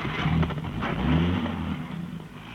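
A radio patrol car's engine revs up loudly, its pitch climbing as the vehicle pulls away, with a steady rumble continuing as it drives off.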